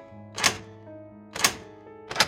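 Lock tumblers inside a door lock being lifted by picks: three crisp, bright clicks spaced roughly a second apart, each a short snap standing out over a steady low hum, with no talking.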